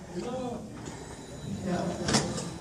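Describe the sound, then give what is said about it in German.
After a button is pressed, a door slides open with a brief whoosh and a clunk near the end, over a low background murmur of voices. “Da öffnet sich die Tür”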